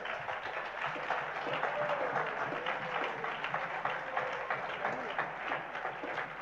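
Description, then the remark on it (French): An audience applauds the Lord for his word with steady, dense clapping that holds at an even level for several seconds, with voices calling out and cheering mixed into the applause. “Applaudissons le Seigneur pour sa parole.”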